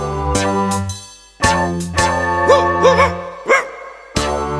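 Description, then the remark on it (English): A dog barks several times in short, separated bursts over a steady musical backing, the barks sharp, with a couple of quicker yelps in the middle. “El perro ladra. The dog barks.”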